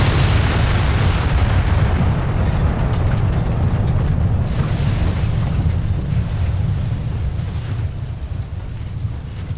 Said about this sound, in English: My sensors are indicating rapid fluctuation in the radiological spectrum. There's no reference point in my... shockwave imminent. Brace for impact.